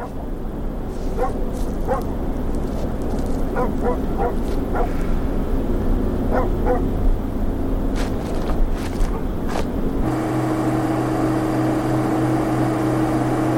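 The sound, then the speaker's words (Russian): A dog gives bursts of short barks and whining yelps, spread across several seconds over a steady low rumble that later shifts to a constant droning hum. “А мы с собакой.”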